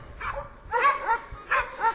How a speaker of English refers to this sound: She's been sent out to search. She's found the person, and she will run back and let her master know. Her bark is the alert to say that she's found somebody.